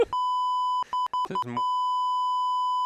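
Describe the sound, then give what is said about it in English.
A steady, loud electronic bleep tone runs nearly the whole time, a pure pitched whine with a few brief bursts of muffled sound cutting through it near the start. “The whole story beep out.”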